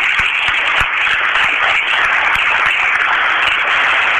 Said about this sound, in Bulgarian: Моля още веднъж за вашите аплодисменти.